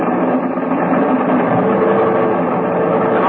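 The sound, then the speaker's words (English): Aircraft engines roar wide open at full throttle and maximum manifold pressure for takeoff, a loud, steady, dense drone that holds without a break for several seconds, filling the whole scene, with no voices. “All right, give me every last inch of manifold pressure. Those engines will take without burning up.”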